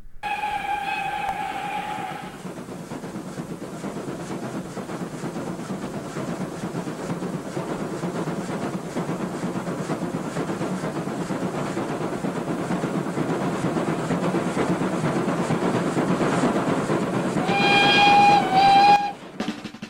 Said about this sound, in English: metal wheels go over the end of a track, there's a click sound. So the first part of this song is the recording of that click sound of what a train sounds like when you're riding on it going over the tracks.